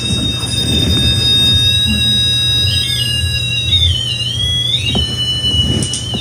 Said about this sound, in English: And as the conversation ended is when all of our equipment started going off.